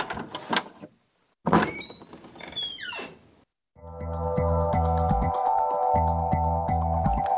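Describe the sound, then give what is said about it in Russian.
Doors slide open with a squealing, whistling mechanical rush, followed by a steady electric hum with a pulsing, rhythmic drone, loud, with no voices. “Двери открываются.”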